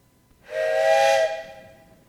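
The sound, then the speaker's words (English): A single breathy blast from a train whistle, with no train present, rings out for under a second, a steady harmonic tone over airy hiss, then trails off quickly into quiet. “No, I just brought the whistle. Okay. It sounds like a train.”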